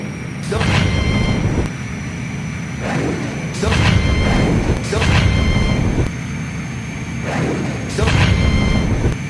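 Gunfire shooting at airplanes flying around, and explosions, sound in repeated heavy bursts, about one every second or so, over a steady droning engine hum with high whining tones running underneath throughout.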